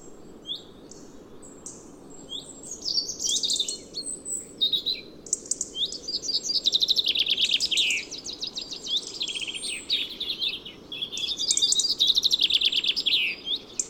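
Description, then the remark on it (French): A European robin and three common chaffinches sing at once, their bright, metallic trills and warbles overlapping continuously in a busy, tangled chorus, clear, with no voices present. “Un peu plus loin, les gazouillements sonores et métalliques d'un rouge-gorge et de trois pinsons communs sont entremêlés, formant un tapage peu fréquent.”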